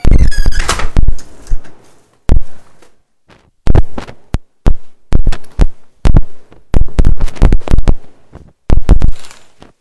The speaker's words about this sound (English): Just open the door.